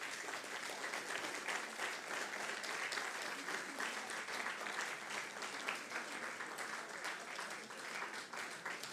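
Sustained audience applause fills the whole stretch, a dense, steady patter of many hands clapping at even loudness with no voices rising above it.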